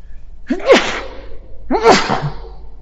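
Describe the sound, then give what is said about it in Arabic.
Two loud, close sneezes about a second apart, each a sharp intake followed by an explosive burst, with no talking in between. “ترى الرواية التي تقول أن عطاس الرجل عند كلامه دليل على صدق مقاله حديث موضوع، بس حبيت أنبه يرحمكم الله”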